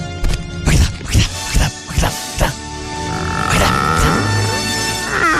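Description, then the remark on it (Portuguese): A staged radio sound effect of a door opening: several quick knocking clatters, then a long, drawn-out creak that stretches on for a couple of seconds, fairly loud, with no talking. “Olha a porta abrindo, né? Viu? Porta abrindo.”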